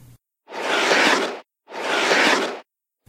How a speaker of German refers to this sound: Und? Hast du das Geräusch erkannt? Dann hast du es sicher selbst schon einmal ausprobiert. Schlittschuhlaufen.